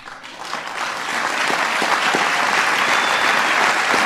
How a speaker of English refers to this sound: People applaud wildly.